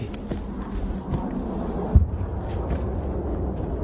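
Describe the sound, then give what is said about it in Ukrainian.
An explosion from a Russian aerial bombing strike in the Bakhmut direction: one muffled boom midway through, rising briefly out of a steady, deep, wind-blown rumble that fills the whole recording. “Давайте посмотрим, как выглядят российские авиаудары.”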